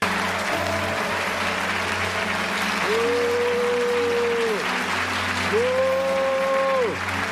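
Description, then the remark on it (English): A large audience applauds steadily as the cast of a show take their bows, a dense wash of clapping that never lets up, while a single audience member cuts through twice with long, drawn-out boos. “next scene, Andy and the rest of the cast are taking their bows and the audience is applauding.”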